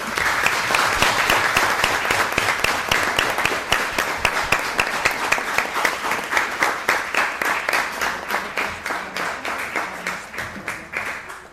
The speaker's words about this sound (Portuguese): portanto, penso que era justa uma salva de palmas para todos os pensadores e organizadores deste evento.